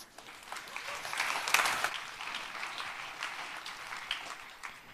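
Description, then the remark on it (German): An audience claps steadily for several seconds to welcome a team presenting their project Wrapper, a dense crackle of many hands that swells slightly in the middle before tapering off. No one speaks over it. “Einen ganz herzlichen Applaus.”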